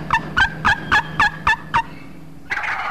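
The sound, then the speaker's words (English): A wild turkey gobbles: a loud, rapid run of about seven rattling, throaty pulses, followed by a short pause and then a steady, hissy noise. “The wild turkey.”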